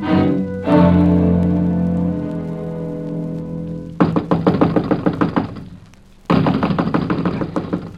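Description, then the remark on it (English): A sustained musical tone fades out, then loud, rapid knuckle knocks on a wooden door come in two long bursts separated by a short pause, insistent. Someone is knocking on the door of an old woman's house to check on her. “I'm wearing my knuckles to the bones knocking on this door, Chief.”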